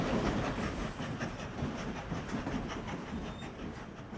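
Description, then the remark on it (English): A passenger train bound for Moscow rumbles steadily along the rails, its wheels clacking in a quick, regular rhythm over a dense, constant roar. Fairly loud, with no voices. “And the next morning, we left for Moscow by train.”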